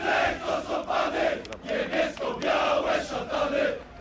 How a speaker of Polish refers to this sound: Głęboki oddech na boisku przy ulicy Cichej przy wielkim aplauzie kibiców kolejorza. Zwycięstwo w ostatniej chwili.